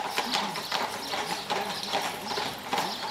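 Horse hooves clip-clop in a steady walking rhythm on a hard surface, each strike crisp, continuing throughout with no voices.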